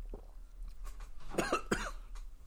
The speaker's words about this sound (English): Excuse my cough.